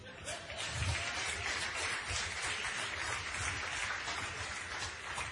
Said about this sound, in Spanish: ¡Qué nivel! Un aplauso.